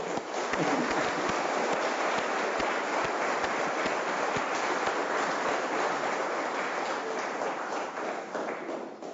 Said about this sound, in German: Vielen Dank. Da können wir ruhig mal klatschen.